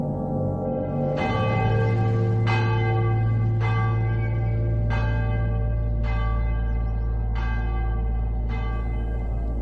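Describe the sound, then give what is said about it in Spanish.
Church bells toll a slow death knell on the Night of the Dead, about seven heavy strikes at a steady, mournful pace, each ringing out over a deep, continuous hum that lingers between them. No one speaks. “La noche de difuntos me despertó a no sé qué hora el doble de campanas.”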